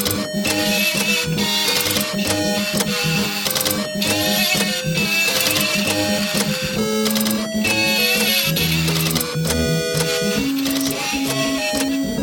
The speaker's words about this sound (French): Alors pour jouer cette version, il y a le Spectrum qui fait les guitares, une imprimante Epson pour les drums, un scanner HP pour la basse, et tout un tas de disques durs pour la voix et les effets.